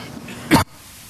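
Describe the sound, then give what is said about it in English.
A single short, sharp cough bursts out against quiet, faint background hiss; no one speaks around it. “Quit that coughing. It's contagious.”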